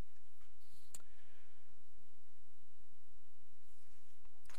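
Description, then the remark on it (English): A few soft, isolated taps and scrolls on an iPad screen, spaced several seconds apart, quiet against a faint hum, with no one speaking. “Yep, my old school paper is getting behind on my new school iPad here, so pardon me while I catch up real quick.”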